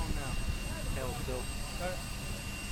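A steady, droning helicopter engine idles and warms up before the rotors turn while everything is pressurized, a constant mechanical whine and low rumble with no rotor beat yet, while voices talk over it.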